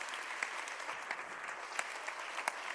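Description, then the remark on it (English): An audience applauds steadily, dense overlapping claps forming a continuous wash of sound with a few sharper individual claps standing out. “Let's honor God for Bishop Doug. You are not clapping, you are a suspect.”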